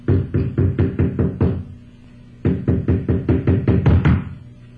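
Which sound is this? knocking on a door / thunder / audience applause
knocking on a door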